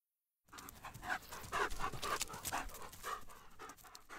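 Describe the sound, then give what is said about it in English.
Several sled dogs pant rapidly and steadily, with breathy rhythmic huffs filling the whole stretch after a brief moment of silence at the start. “Can you hear the dogs?”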